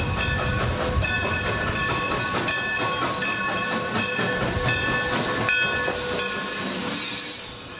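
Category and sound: sound effect, train sound effect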